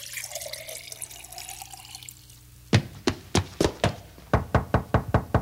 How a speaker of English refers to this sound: I'll pour a glass and bring it to him myself.